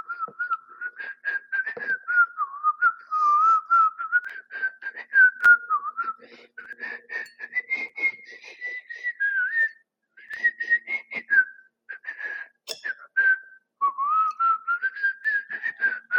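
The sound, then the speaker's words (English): A person whistles a lively, rhythmic movie theme tune, with a clear pure tone rising and falling across phrases and brief pauses for breath, no talking. “I can whistle, but I don't know what to whistle. I watched Pirates of the Caribbean the other day. I'm going to do that.”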